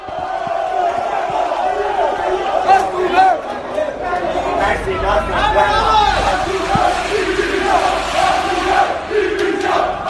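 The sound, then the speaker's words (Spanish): A crowd of FC Barcelona fans at the entrance perimeter of the Camp Nou stadium shouts and chants together, looking for Bartomeu and chanting "el Barça es nuestro", in a loud, continuous roar, many voices overlapping in rhythmic yells with no single speaker standing out. “estos aficionados han entrado precisamente buscándolo bajo el grito de "el Barça es nuestro"”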